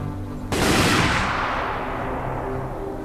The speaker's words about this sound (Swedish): I detsamma sköt de röda en skottsalva.